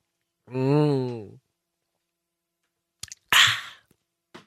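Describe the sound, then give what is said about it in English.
A short voiced hum, a pause, then a brief slurping sip of water with wet clicks and a soft swallow click at the end, as a person drinks. “I'm going to take a sip of water while I play something for you. No, I can't. So I'm just going to listen to me drink.”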